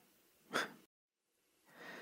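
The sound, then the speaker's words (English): A duck snoring softly: a short, breathy snort, a moment of silence, then a longer raspy inhale, quiet with no talking. “Did you know ducks can snore?”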